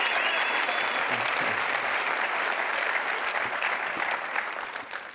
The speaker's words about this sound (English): Let's give one more round of applause for Coach Kevin Young. Thank you. An official welcome for Kevin Young, the new men's basketball coach at Brigham Young University. Those at the Marriott Center on their feet.